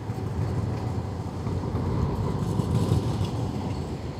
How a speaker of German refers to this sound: Hier am Frankeplatz musste ich mehrere Ampeln überqueren, um auf die andere Straßenseite zu kommen und dabei gleichzeitig auf die Straßenbahnen achten, die wie jetzt gerade zum Beispiel hier von mehreren Seiten ankommen.